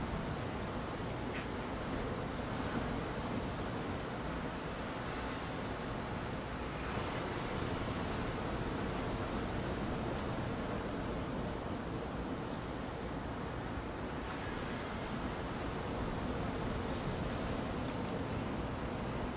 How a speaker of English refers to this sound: I'll let you guys enjoy the ocean a little bit.